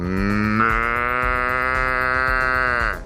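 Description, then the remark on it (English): A person in Laverton gives one long, loud, drawn-out moo-like call to summon cows, holding a steady pitch with a slight lift early on before it trails off at the end. “Can you demonstrate to me the sound you make when you get the cows come over again?”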